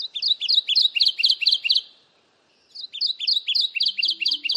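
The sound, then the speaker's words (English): A Kentucky warbler sings two loud, clear phrases of rapid, rolling two-note chirps, separated by a brief pause, from the ground in swampy woodland, with no talking. “You might think this Kentucky warbler's bright yellow throat would be easy to find in the swampy woodlands it calls home, but he's happy to sing to the high heavens with both feet on solid ground.”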